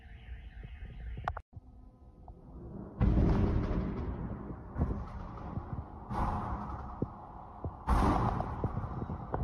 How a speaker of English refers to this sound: Now, those aren't the ballistic missiles that you're hearing coming in. Those are the drones slamming into random things. Again, I don't have a word or a count yet on how many have been coming across, but it is quite a bit.